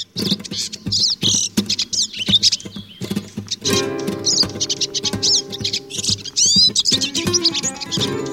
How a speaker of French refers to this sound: Et c'est un oiseau qui est réputé pour son chant, particulièrement la sous-espèce qui s'appelle Cardulis parva, le chardonneret qui se trouve au Maghreb et en Espagne, Portugal, la zone géographique voilà, plus contour méditerranéen.